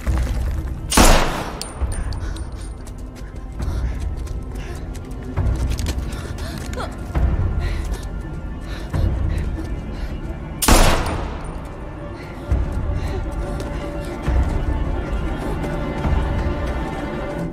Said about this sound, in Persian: خدای من گلوله بود. یعنی اون موجودات اومدن.